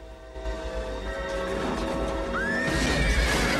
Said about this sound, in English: now a white horse again, bursts out of the rubbish skip and gallops towards them.